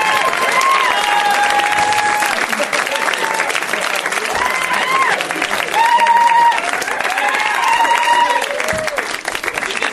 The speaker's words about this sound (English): We should just do, like, let them clap for 25 minutes, and that's the thing. It's just you coming out.